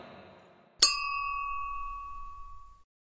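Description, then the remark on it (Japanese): A single bright clink of glasses touching in a toast, followed by a clear ringing tone that hangs in the air for about two seconds before cutting off, after a brief stretch of soft background murmur. “キミモル雑談に乾杯。”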